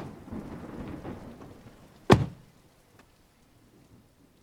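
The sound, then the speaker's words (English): A steady hiss of heavy rain is split by one sudden, sharp thunderclap that rumbles briefly and fades, leaving only faint patter behind. No one speaks. “I'm gonna open the door and we're gonna run because this is bad and we are gonna get soaked to the bone, baby.”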